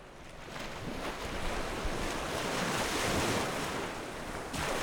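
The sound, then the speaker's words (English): Waves of Lake Champlain wash steadily onto the sandy shore of North Beach in Burlington, Vermont, where researchers sample the sand for microplastics, in a continuous, rushing hiss, with gusty wind buffeting the microphone and no voices, staying fairly loud and even throughout. “At Burlington's North Beach, researchers comb the sand from the waves to the boardwalk.”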